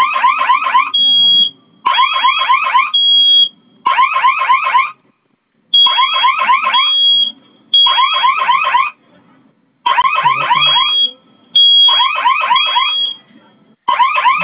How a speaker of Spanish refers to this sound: Bueno, no se apagó la alarma. La alarma sigue sonando, ¿no, señorita? Sí, sigue sonando.